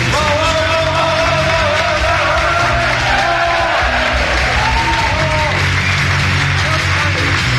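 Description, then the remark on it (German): A large audience at the end of a university chemistry lecture claps and cheers loudly and continuously, with shouts and whoops rising over dense, sustained applause throughout. “Das Publikum war begeistert.”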